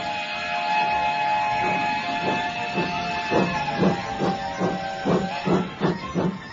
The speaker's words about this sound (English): As the 9:30 chugged away, William was left standing forlornly on the platform.